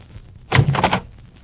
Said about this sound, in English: You're the manager, fella? That's what it says over the buzzer you've been leaning on.